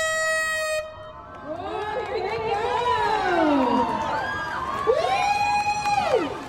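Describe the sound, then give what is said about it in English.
A large crowd on a beach cheers and whoops loudly as racers start and dash into the rocky ocean, many voices rising and falling together in excited shouts, opening with a brief horn-like blast before the roar builds and stays steady. “Crowds gathered around the beach to watch the racers dash into the rocky ocean and paddle as quickly as they could whilst trying to stay afloat.”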